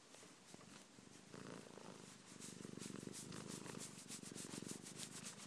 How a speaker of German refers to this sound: Ne, Katze? Oder Schnursack, Schnurrbeutel.